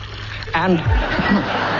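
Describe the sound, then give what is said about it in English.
Water pours briefly into a drinking glass, a short gurgling trickle lasting about a second over a faint background hum. “Just to demonstrate how I produce this lovely sound, I fill up this glass so.”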